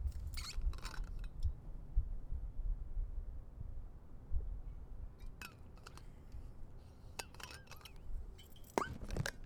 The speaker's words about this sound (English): Hold on. I need a drink of water. Just cool your jets for a minute.